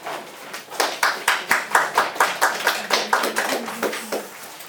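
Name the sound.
audience clapping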